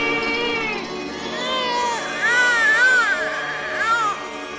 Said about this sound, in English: She joined the two halves, and lo behold, one child was brought to life. The infant started crying.